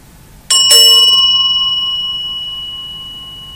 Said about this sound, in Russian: Вот я сейчас это продемонстрирую. Если вы присоедините свой ум к звуку колокольчика, потом звук колокольчика затихнет, и останется просто очень глубокая-глубокая тишина.